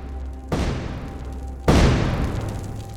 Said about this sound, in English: The sound of German artillery firing echoed across the battlefield, the night filled with the sound of explosive shells whistling overhead, and the air vibrating with the concussive blasts of their impact as they began to fall around the crater.